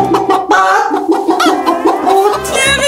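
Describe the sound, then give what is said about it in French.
A woman, the host at a dinner, imitates a hen, producing a rapid run of loud clucks and squawks with a strained, nasal quality, continuing steadily for a few seconds. “Vous avez bien entendu, elle se met à imiter la poule.”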